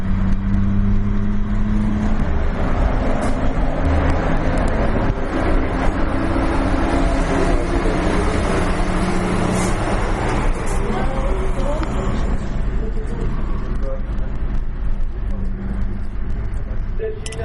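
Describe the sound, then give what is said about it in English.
Steady, loud road traffic rumble with heavy truck engines droning, as many trucks and other vehicles pass continuously on suburban roads leading out of the city, over a dense low-frequency hum, with faint muffled voices underneath. “There's so many trucks on the road.”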